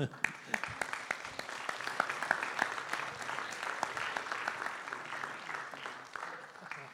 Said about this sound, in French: Merci de ta présence et bonne santé. On peut l'applaudir.